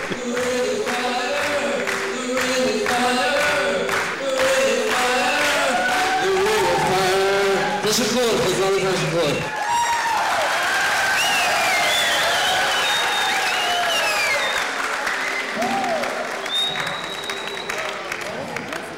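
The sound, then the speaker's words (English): A large concert crowd cheers and applauds loudly, with whoops and shouts rising over steady clapping that carries on without pause for the whole stretch. “But they're going crazy. It was the best crowd I've ever had.”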